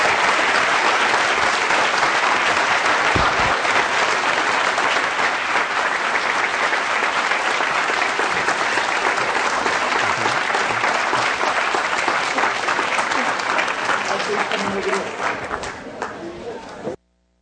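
Sustained audience applause, a dense wash of many hands clapping at a steady loud level for about fifteen seconds before tapering off and stopping abruptly.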